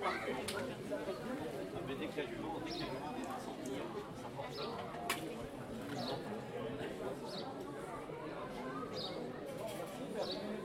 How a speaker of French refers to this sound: Ah ! Un oiseau répond au poissonnier.